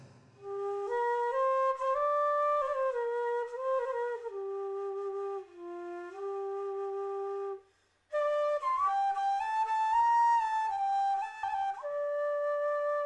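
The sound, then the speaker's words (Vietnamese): A blind man plays a bamboo flute as he walks along Sơn Nguyệt Anh street in Saigon on a cool late-May evening. It is a flowing melody of long, sustained notes that rise, fall and bend in pitch, pausing briefly midway before continuing clearly and steadily with no voices. “Bỗng nhiên trong không gian lại réo rắt tiếng sáo.”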